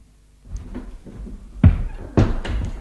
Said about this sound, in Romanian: ușa se deschide și în prag apare un tânăr.